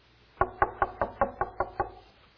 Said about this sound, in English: Are you ever at home and somebody knocks on the door? And what do you do when somebody knocks on the door?